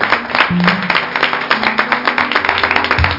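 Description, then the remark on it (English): An audience claps their hands together in a dense, continuous round of applause for the Lord during a worship service, many overlapping claps filling the room at a steady, enthusiastic level for a few seconds, with faint low tones underneath. “Let's give the Lord another hand clap.”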